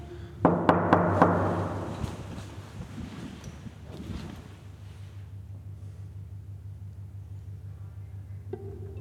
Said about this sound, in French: Alors, je vais toquer à la porte de Martine.